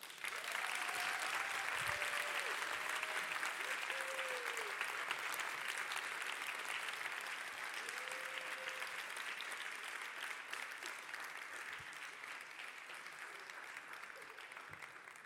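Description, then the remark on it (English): Sustained audience applause as a volunteer is invited on stage, a dense wash of many hands clapping at steady loudness throughout, with a few faint whoops and cheers rising briefly above it before it gradually eases slightly. “Okay, so I'm going to invite you, to join me on stage, and the rest of the audience, a huge round of applause.”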